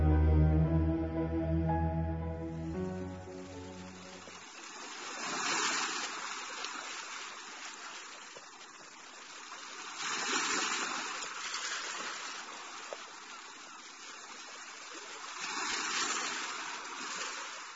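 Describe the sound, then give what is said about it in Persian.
Gentle sea waves wash in and recede in slow, soft swells about every five seconds, following a brief fading tonal intro, with no one speaking. “امواج دریا آروم به روی هم می‌لغزیدند و مرغان دریایی با صفیری رازآلود هر لحظه بر سطح آب می‌نشستند و بلند می‌شدند.”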